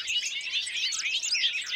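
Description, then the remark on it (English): A bobolink's bubbly, tumbling song pours out in a continuous stream of high, jangling notes, moderately loud and steady throughout, with no voices present. “Each tiny bobolink chick could be destined for multiple trips around the globe.”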